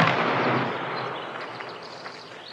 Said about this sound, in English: but also things like the recording of the heels on the floor in the courtroom scene and the bird song after the drum roll for the firing squad. Ready? Aim! Fire!